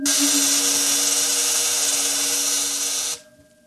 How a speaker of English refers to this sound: If you will kindly stay clear of the terminal areas, I will activate the field. What's happening? The field is vibrating at the cycloid rate set on the crystals. All right, it's ready for discharge. Now.